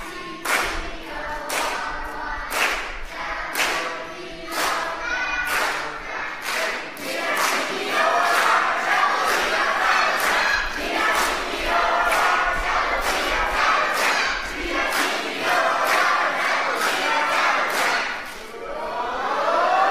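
The Green Team crowd cheers and chants loudly in a team cheer contest for 300 points, with steady rhythmic clapping and stomping driving the noise for the whole stretch.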